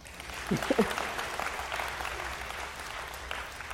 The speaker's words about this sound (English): It's okay to clap.